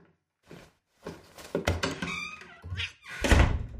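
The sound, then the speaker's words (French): A few soft bumps and shuffling movements build up as a man puts a cat out the door, then the door swings shut with a loud, heavy thunk near the end. No voices are heard. “Il s'est levé et a mis le chat à la porte.”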